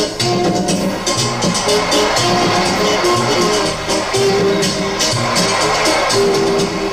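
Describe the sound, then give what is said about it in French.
A large crowd of supporters in a football stadium roars and applauds continuously as their goalkeeper comes off his line after a corner and catches the ball, a dense wash of clapping and cheering voices that stays loud and steady throughout, with no clear individual speech. “c'est Sigo en pleine forme qui sort de sa cage et cueille le ballon sous les applaudissements de ses supporters”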